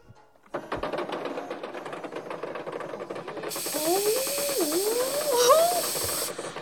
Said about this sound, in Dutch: Uit die spuitbus komt een soort plastic. Als het is opgedroogd zijn alle gaten en scheuren heen.